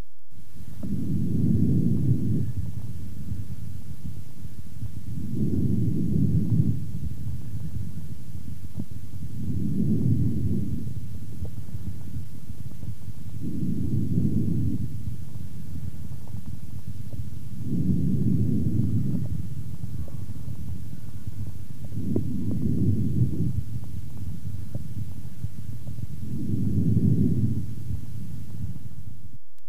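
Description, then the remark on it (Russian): Harsh breathing heard through a stethoscope: seven low, muffled rushing breaths repeating steadily about every four seconds over a soft constant rumble, with no voices. “Сравните жесткое дыхание с характеристиками визикулярного дыхания.”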